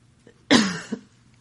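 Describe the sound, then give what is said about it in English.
A single sharp cough bursts out and trails off into a brief raspy throat clearing, with nothing else around it. “All right, now I'm not going to cough.”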